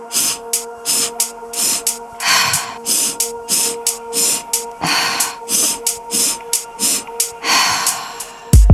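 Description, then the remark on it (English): A steady, rapid series of sharp nasal sniffs alternating with forceful breathy puffs through the mouth, loud, repeating about fifteen times with no talking, as a person practices a sniff-sniff-puff breathing exercise at a steady pace. “Maintain a steady rhythm, ensuring each sniff, inhale, is sharp and quick, and the puff, the exhale, is strong and complete.”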